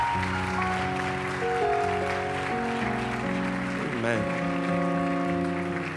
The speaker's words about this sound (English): Give the Lord one more good, healthy hand clap of praise.